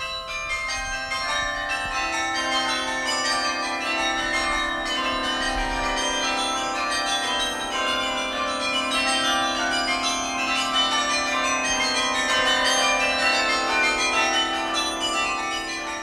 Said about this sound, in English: A test of the high bells alone was decided in order to determine the brilliance of the spectrum of the carillon.